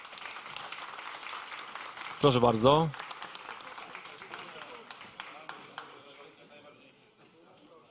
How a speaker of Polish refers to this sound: Brawa, tak jest, brawa.